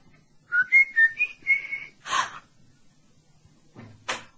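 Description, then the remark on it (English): A person whistles a short, clear tune of five or six rising and falling notes, followed by a breathy burst and, after a pause, a sharp knock-like clatter. “By the way, who whistled as I was coming up the drive? Well, it went like this.”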